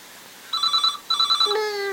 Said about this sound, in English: All right, darling, just let Mummy answer the phone.